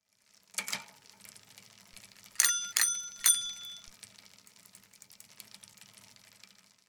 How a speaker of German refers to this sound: Das Fahrrad.